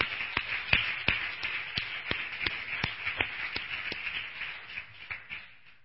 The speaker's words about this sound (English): May we give them a round of applause. Thank God for their lives.